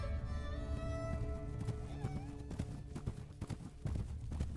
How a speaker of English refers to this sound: Then, a few seconds later, I heard it too. The unmistakable sound of a horse galloping along the dirt track from the direction of the ruins.